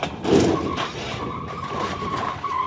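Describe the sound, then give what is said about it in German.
A car skids with a sustained, high tire squeal, and a loud, heavy crunch of impact comes early on as it crashes sideways into a guardrail in a guardrail safety test, bounces off and comes to a stop after 20 meters. The scrape and screech continue without any talking. “Er crasht seitlich gegen die Leitplanke, prallt von ihr ab und kommt nach 20 Metern arglädiert zum Stehen.”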